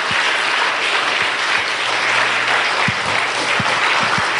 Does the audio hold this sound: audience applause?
yes